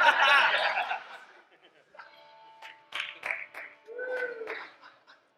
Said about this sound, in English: I have never clapped for joy like that before. Oh, yeah, I'm so thankful for that one. That's an apathetic pity clap right there.